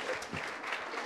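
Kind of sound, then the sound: crowd, audience applause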